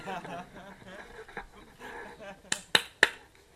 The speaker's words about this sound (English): He says, if I clap my hands three times, and in that amount of time Krishna doesn't provide for my family when I'm taking shelter of his names, then I will put a rope around my neck